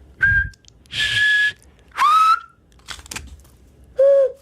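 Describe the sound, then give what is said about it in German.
A person whistles four distinct short whistles in turn, one not made with the mouth; some clear and pure, one rising, another breathy and airy, with brief pauses between them, fairly loud with no talking. “Und auf alle verschiedene möglichen, auf wie viele Arten kannst du pfeifen?”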